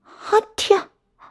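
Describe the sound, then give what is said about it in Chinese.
A single loud sneeze, a voiced 'ah' build-up snapping into a sharp breathy burst, with a faint trailing sound after; it sounds like a voice acting out a sneeze, from someone who is cold. “啊嚏，冻得我直打喷嚏。”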